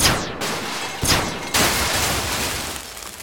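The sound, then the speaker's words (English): A rapid volley of sci-fi blaster shots from a simple booby-trap rig set off when the door to Louis's office opened, three sharp zapping bursts with falling, whistling tones, followed by a loud, hissing wash of noise that slowly fades. No one speaks. “Simple blaster rig for when the door opened.”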